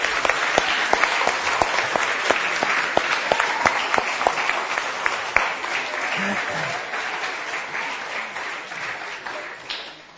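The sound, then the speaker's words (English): A crowd claps steadily for about ten seconds for the year's preschoolers, dense overlapping hand claps with some sharper individual claps standing out, gradually tapering slightly toward the end. “So let's give a big round of applause to all the preschoolers this year.”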